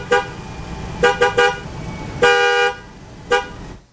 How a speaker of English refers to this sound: A car starting and a horn honking?